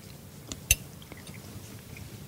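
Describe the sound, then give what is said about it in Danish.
Someone eating, with a sharp crunchy bite followed by a few softer, quiet chewing clicks over a low background murmur, and no talking. “Nu forholder jeg mig til det, mens jeg spiser noget, ja, der er virkelig lækkert.”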